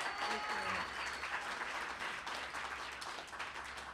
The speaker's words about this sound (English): Yeah, you can clap for that, please.